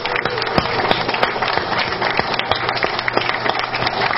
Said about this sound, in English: I could ask everybody just to give it one more big round of applause for the future.